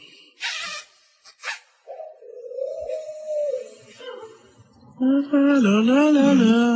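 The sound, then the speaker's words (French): A pet parrot named Jaco, urged to whistle, gives a couple of short, harsh squawks, then a steady mid-pitched whistle, ending in a loud, wavering, warbling whistle that rises and dips over the final seconds. “Allez, Jaco, siffle, coco.”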